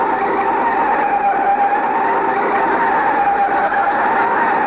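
A car brakes hard to a stop with a loud, sustained squeal that holds steady for several seconds over a rough rumble of road noise, with no voices. The car's brake had been fixed.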